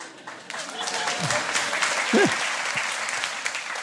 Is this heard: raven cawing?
no